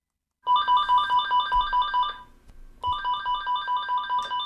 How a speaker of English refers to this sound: a year ago, hours would sometimes pass before the phone would ring at his Northwoods Real Estate Company in Millinocket.